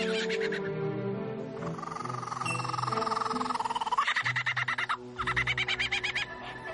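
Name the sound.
bird call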